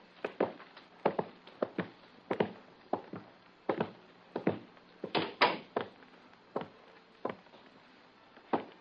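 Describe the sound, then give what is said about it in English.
A door shuts with a dull thunk after someone goes in through it, among a run of evenly spaced, hollow knocks and footfalls, fairly quiet, with no voices. “There is an open door to your left. Go into it. The door will close.”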